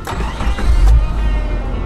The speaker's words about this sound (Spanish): De mal humor, se subió al coche.